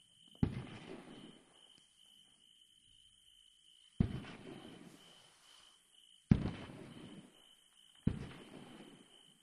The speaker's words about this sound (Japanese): 膝枕で遠くから花火を見るってちょっとロマンチック。